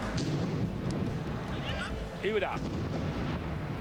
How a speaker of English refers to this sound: That's footage from the soccer game, and there's an explosion on it. Let's listen to that again. Two big explosions.